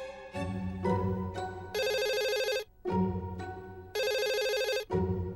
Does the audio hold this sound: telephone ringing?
yes